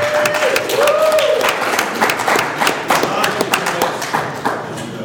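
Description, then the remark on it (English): A crowd breaks into sustained applause for a man who stayed up almost all night cooking the food they ate, many hands clapping in a dense, steady patter for several seconds, with a few whoops and cheers rising over it near the start. “So he deserves a round of applause.”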